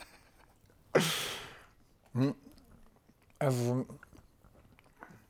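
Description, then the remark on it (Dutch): A loud crunching bite of camel fig followed by chewing sounds, with a couple of short voiced murmurs in between and no clear words. “Even een lekkere dikke hap,”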